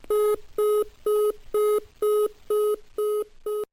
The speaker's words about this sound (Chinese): 单位电话一直占线，文秋一阵烦躁，只得扣下